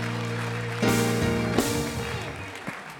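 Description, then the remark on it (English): An audience at a Wednesday night church service claps their hands in a dense, continuous wash that swells in bursts, layered over sustained musical tones, with no clear speech. “Praise God, clap your hands all over the house.”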